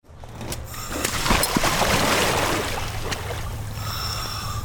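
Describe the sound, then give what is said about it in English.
A researcher wades out of the cold waters of the Kenai River on a Saturday afternoon, irregular splashes and swishes building then easing over a steady low rush of flowing current. “makes his way out of the cold waters of the Kenai River on a recent Saturday afternoon.”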